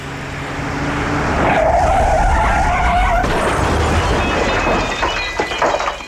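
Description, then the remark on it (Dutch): A car skids at speed, tires squealing in a sustained high screech over a loud engine roar, with a steady tone midway before the sound breaks into rougher noise toward the end. The car is a dark green Buick Riviera. “Nauwelijks had ik mij van de door staatsbosbeheer vakkundig onderhouden berm omhoog gezwiept, of de lichtelijk gebogen voorruit van een aanstormende donkergroene Buick Riviera.”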